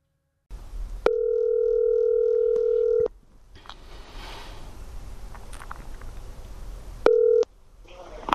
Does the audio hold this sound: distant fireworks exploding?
no